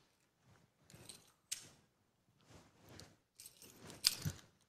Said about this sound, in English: So I'm just going to let him catch something so you get the idea, right? Just, it's a simple thing. You've seen people do this before. Now, we're testing your ability. Yeah, you're ready. Yes. Because he's got to catch some keys.